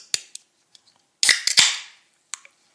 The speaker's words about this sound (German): Und ja, ich merke schon, mein Hals ist trocken, deswegen müssen wir jetzt erstmal einen anzischen hier.